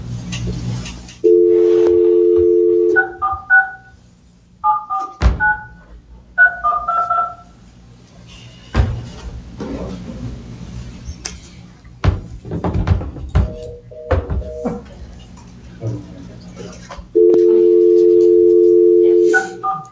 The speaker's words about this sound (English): I could hang up and call back in. Okay. Okay, so can't hear nothing. I'm gonna hang up and dial back in.